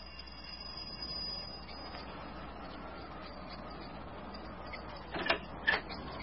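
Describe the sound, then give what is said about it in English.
A dodgy doorbell is given a good push, giving two short, sharp rings in quick succession near the end, after several seconds of steady background hiss with no one speaking. “His doorbell's a bit dodgy. Give it a good push.”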